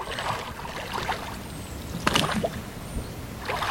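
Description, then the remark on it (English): One man rows a boat away across the calm water of a reservoir in a narrow, densely forested valley; oars dip and pull in a slow, steady rhythm, each stroke bringing a soft splash and trickle, fairly quiet, with no voices. “One man unmoors his boat and rows away, barely rippling the tranquil waters.”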